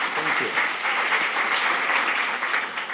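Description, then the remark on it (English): A large audience in Melbourne bursts into loud, sustained, raucous applause welcoming author Philip Pullman, dense clapping filling the space evenly for the full three seconds, with faint voices mixed in among the claps. “Melbourne, please make him very welcome with a big, raucous round of applause.”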